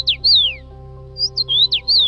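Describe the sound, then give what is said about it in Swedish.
A finch, likely a common rosefinch, sings in Lithuania in spring, giving clear, loud whistled notes that slide down in pitch, a pause, then a quick run of rising and falling phrases over a steady low hum. “Kan du höra det? Rödhövdade snöspärvar är exceptionella fåglar.”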